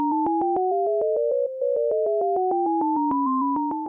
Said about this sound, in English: Each ear is getting an alternation between high beeps and low beeps. But together you're hearing all of the high beeps as a unit on one side, probably on the right, and all the low beeps on the other side.